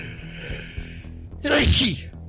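A single loud sneeze bursts out about halfway through, sharp and breathy, over a steady low background hum, with no other voices.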